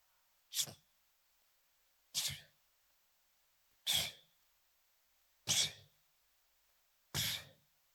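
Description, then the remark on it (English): A voice imitates sneezing five times in a row, each a sharp, loud burst with even pauses between them, with no talking. “This time when he went back, the Bible tells us that the boy sneezed 7 times.”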